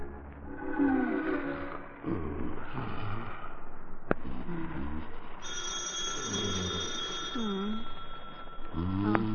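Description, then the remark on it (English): A telephone rings with a sustained, bright electric bell partway through, standing out clearly over a busy background of low murmuring voices and rumble. “Answer to the phone.”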